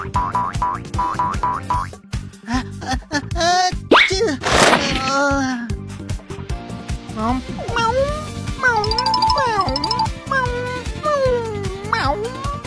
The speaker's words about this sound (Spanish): ¡Gatito, salta! ¡Meow! ¡Meow! ¡Meow! ¡No saltará!